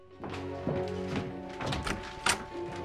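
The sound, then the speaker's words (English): A front door is opened: a few sharp latch clicks and dull wooden thunks in quick succession, over a faint steady hum, with no one speaking. “Opening the door, she is confronted by a man holding a cloth to his mouth.”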